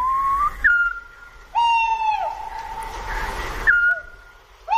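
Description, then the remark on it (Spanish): Eurasian scops owls give clear, steady whistled notes, several in turn with some overlap, against a quiet background hiss. A few notes are richer and slightly wavering. No one speaks. “Silban, al fondo, los autillos, otro búho.”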